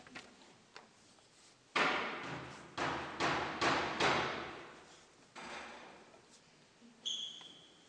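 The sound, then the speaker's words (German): Hammer blows strike at an uneven pace during a church service with confirmands, about seven loud impacts, each ringing out with a long echo. No one speaks. “Wir wollen die Hammerschläge hören.”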